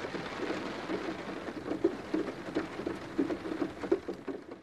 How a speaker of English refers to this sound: The birds aren't singing in the forest today because it's raining.